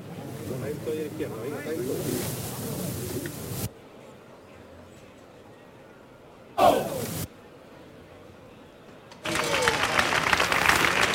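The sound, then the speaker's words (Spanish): A crowd below shouts "Al cielo" and applauds in waves as the bearers lift the Macarena's float in a sudden jump, beside calle Caña: a long stretch of noisy cheering, a quieter lull broken by a brief sharp burst, then loud clapping and shouts swell again at the end. “Al cielo, gritan desde abajo.”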